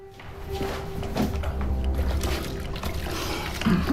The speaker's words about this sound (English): He rushes into a bathroom, where he splashes water on his face